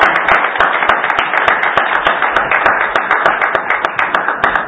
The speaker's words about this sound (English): Well, let's praise the Lord for that message and give him a hand clap of praise.